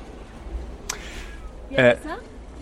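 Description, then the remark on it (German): A seven-year-old Savannah cat gives one short meow, rising clearly above a quiet background hum, with a brief faint rustle shortly before it. “Das ist eine Savannah-Katze.”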